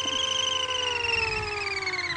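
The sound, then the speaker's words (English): A phone's text notification tone: a steady, buzzy harmonic hum that slowly slides downward in pitch over about two seconds, holding an even loudness throughout with no voices. “That's my text notification.”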